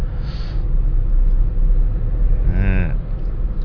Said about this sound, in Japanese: ビッグレンタル、ビッグレンタルの、今度は車をたくさん積んだトレーラーですね。